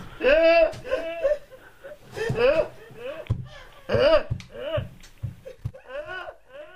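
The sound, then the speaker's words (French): A person imitates a goat's bleat, repeating short, quavering nasal cries in a quick series of about eight bursts, loud, with no other talk. “Mais non, elles font bébé. Autrement, c'est la vache qui fait ça.”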